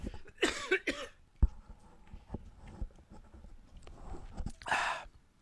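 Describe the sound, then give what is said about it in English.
Someone takes a gulp of coffee, with a couple of breathy slurping bursts, soft wet swallowing clicks and a final exhale, quiet and unaccompanied by talk. “Excuse me for a second while I take another gulp of coffee.”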